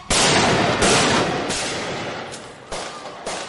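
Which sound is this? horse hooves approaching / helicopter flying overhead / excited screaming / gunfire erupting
gunfire erupting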